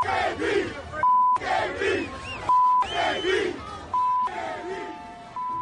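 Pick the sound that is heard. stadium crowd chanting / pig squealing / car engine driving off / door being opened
stadium crowd chanting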